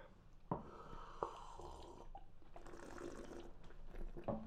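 Someone slurps beer during a tasting in a few short, wet sips, with sharp sucking clicks and airy, gurgling stretches between them, fairly quiet with no talking.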